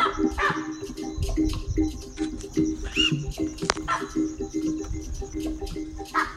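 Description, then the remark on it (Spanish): Monkeys, impalas and cuckoos on the savanna give a chorus of sharp, bark-like alarm calls at a predator, repeating in an irregular, overlapping clamor against a busy outdoor background, loud throughout. “Pronto escuchamos los sonidos de alarma de los monos. Los acompañaban en una orquesta estridente y sin ningún compás, los impalas y los cucus.”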